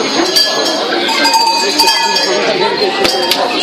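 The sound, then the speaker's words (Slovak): A telephone rings with a continuous, jangling bell-like tone that stays steady and fairly loud for the whole few seconds, with no voices over it. “Počúvaj. Zvoní to dám.”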